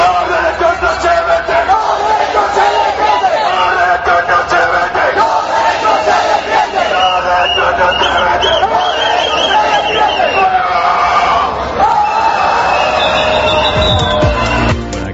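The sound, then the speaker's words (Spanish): A loud crowd of protesters chants and shouts together in a steady, dense roar of many voices, rising in spirited bursts throughout with no pause, at a demonstration called by unions including UGT, USO, Sindicalistas de Base and Intersindical. “Este último, como puedes notar, los manifestantes se vinieron arriba.”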